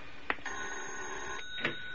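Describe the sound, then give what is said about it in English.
An electric doorbell rings with a steady, buzzing metallic tone, sustained for over a second between two short sharp clicks, with no voices. “Then I heard the bell. My first thought was it was Ira.”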